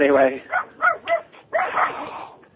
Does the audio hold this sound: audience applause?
no